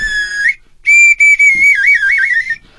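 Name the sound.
brazilian samba whistle blown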